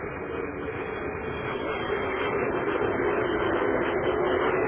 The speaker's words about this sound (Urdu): اور یہاں بالکل ٹریفک کے رینگنے کی صورت حال ہے. اور اب اس جانب سے کچھ اور ٹریفک میں اضافہ ہوا ہے جس کی آوازیں آپ تک پہنچ رہی ہوں گی.